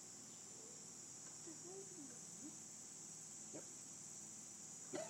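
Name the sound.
chorus of chirping crickets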